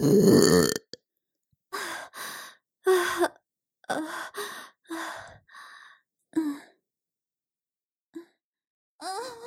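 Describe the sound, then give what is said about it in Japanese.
A long, loud, rumbling burp opens, followed by a string of shorter burps in uneven bursts with brief pauses between them, clear, with no talking. “おしっこゲップ最高です。”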